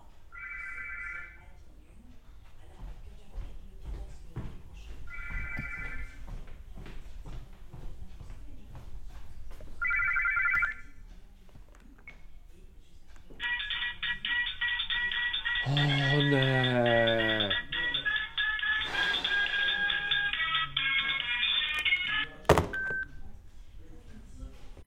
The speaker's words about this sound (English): A ringing telephone might cover up annoying sound sources.